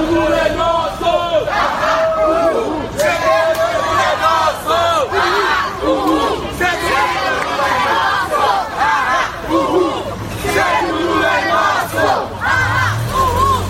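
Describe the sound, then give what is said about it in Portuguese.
Protesters supporting former Brazilian president Luiz Inácio Lula da Silva chant slogans in unison as they enter a property attributed to him, many voices shouting loudly and continuously in a rhythmic, rising-and-falling cadence for the whole stretch, with no pauses. “Ao entrarem no local, os manifestantes gritaram palavras de ordem.”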